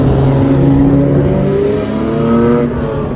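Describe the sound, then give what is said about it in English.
Loud, continuous traffic noise in central Los Angeles on a busy Friday afternoon, dominated by heavy truck engines, a low droning rumble whose pitch slowly rises and falls as the motors rev, with a steady wash of road noise and no voices. “Lots of noisy trucks here in central Los Angeles.”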